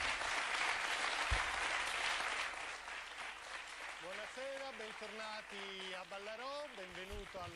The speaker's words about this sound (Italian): Il presidente Silvio Berlusconi. Un applauso.